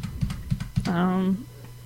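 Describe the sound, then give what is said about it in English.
A few sharp keystroke clicks from a computer keyboard tap out an uneven rhythm, then a sustained vocal tone, like a drawn-out hum, takes over before trailing into quiet. “I can hear myself typing.”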